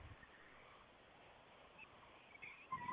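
Faint, far-off wavering cries of a pack of about 10 coyotes, rising in yips and howls toward the end over a steady hiss of outdoor background noise, with no talking.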